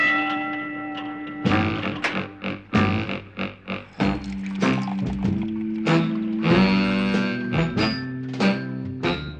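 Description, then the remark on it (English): A sustained metallic ringing tone opens, like a gong, then gives way to a busy series of loud clanking, thumping mechanical hits, with the ringing tones recurring among the clatter, from a machine that chews hay and digests it into milk, the gong sounding as the milk comes out. “And this is going to come out milk? Yes, as soon as the gong sounds.”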